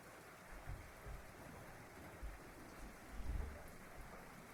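A recorded audio of steady rain hissing continuously while low, rolling rumbles of thunder swell and fade in the background, with a stronger rumble near the end. No voices.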